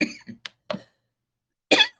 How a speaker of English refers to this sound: take a hard hit to try to get rid of this headache and end up coughing. That's not too smart.